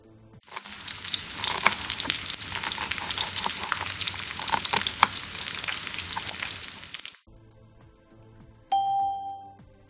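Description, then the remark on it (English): Food sizzles and crackles steadily in a hot pan as a man cooks, for about seven seconds, then stops abruptly; a short pause follows before a two-tone doorbell chime rings out. “He's cooking.”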